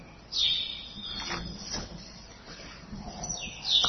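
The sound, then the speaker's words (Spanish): High, thin chirps of a small bird sound at the start and again at the end, with faint rustling and low background noise between them. Nobody speaks. “Hay un ave, un pajarito que está por ahí.”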